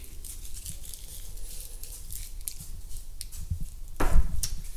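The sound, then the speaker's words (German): Plastic foil crinkles in scattered, crackly bursts, a soft irregular rustling that swells into a louder crumpling handful near the end. It is a piece of foil that a cat had been playing with. No voices are heard. “Ein Stück Folie.”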